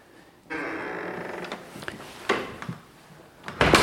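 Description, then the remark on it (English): A heavy mahogany door swings open with a long, grinding creak, followed by a few scattered knocks and a louder clunk of the latch at the end, as someone passes from a house's great central hall into its earlier part, built in about 1803. “Well, I'm leaving behind the great central hall and moving through these great mahogany doors into the earlier part of the house, built in about 1803.”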